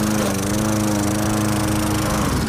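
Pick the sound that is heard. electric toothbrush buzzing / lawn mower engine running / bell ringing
lawn mower engine running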